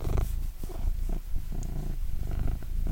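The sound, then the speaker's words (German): A male cat purrs steadily while sitting, a low continuous rumble with a soft rhythmic pulsing, filling the whole stretch without any talking. “Kann die Katze mal schnurren?”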